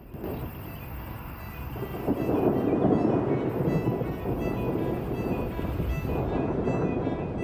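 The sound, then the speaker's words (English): A continuous deep rumble of rolling thunder swells and lingers throughout, steady and fairly loud, with a windy, stormy wash beneath it and no voices, at night with flashes of lightning. “At night, headlights pass by in the distance. as flashes of lightning illuminate the sky.”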